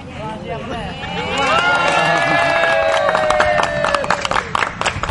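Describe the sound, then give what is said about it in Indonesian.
An audience breaks into applause as a 20-year-old camel named Salsa picks the food placed above the Croatian flag logo, dense clapping swelling after the first second and mixing with excited cheers and shouting voices, steady and fairly loud until the end. “Tepuk tangan penonton langsung terdengar di lokasi tersebut.”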